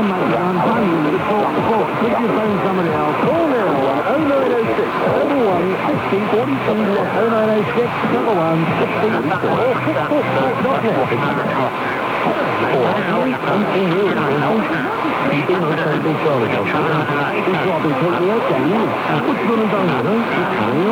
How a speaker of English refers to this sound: Now the Sony 2010, narrow IF filter engaged, and with the sync detect on, and tuned to 1088 kilohertz to force the sync detect to the lower sideband to reduce interference from 1090.